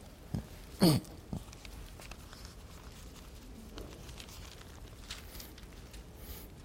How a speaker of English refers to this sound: I like hearing those pages turn.